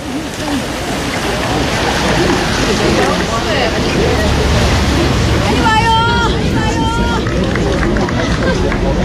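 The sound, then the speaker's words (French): The Jordan River rushes steadily by a bridge where cars pass, a loud, unbroken wash of flowing water with some wind buffeting, and a few brief high tones break through for a moment near the end. “Alors là, c'est le Jourdain, cette rivière, là il y a un pont, les voitures qui passent là-bas.”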